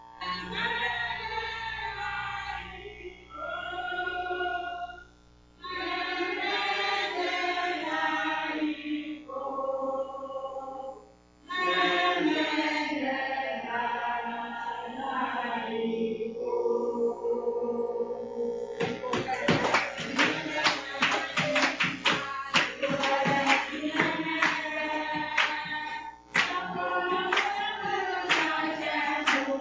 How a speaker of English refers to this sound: Can you play that video there? Here's some clapping for you.